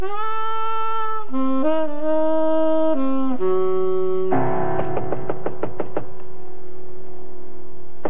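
A rapid series of about eight firm knocks on an apartment door, following a few seconds of sustained, shifting musical tones that hum on beneath the knocking and linger after it stops.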